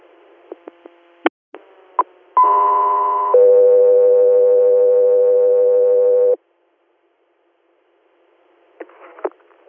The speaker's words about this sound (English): Echo 3 Air, stand by for tone.